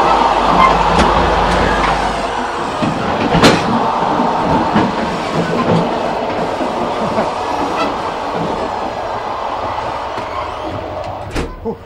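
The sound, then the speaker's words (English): Steady rumbling roar of a moving train, with sharp metallic clanks and clicks breaking through at intervals as someone walks across the bumpy gap between railroad cars into car 12. “I always wondered what prevents you from just catapulting out of the train when that happens.”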